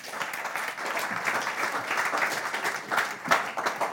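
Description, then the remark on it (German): An audience applauds steadily for the whole stretch, a dense, even wash of many hands clapping at once with no voices rising above it, as two people are called to the front to give their testimony. “Lass uns nochmal einen Applaus geben.”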